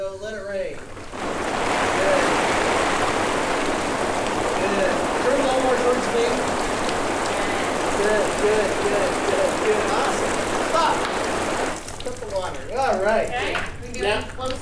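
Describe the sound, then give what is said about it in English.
A heavy, steady downpour of water dropping from an overhead water rig onto a man during a photo shoot hisses loudly for about ten seconds, like a hard shower, with a voice talking faintly underneath and speech resuming once it stops. “And usually when we do a shot like this, we do like 30 seconds and I'm shooting like crazy and 30 seconds of water dropping and he's doing different expressions and different things.”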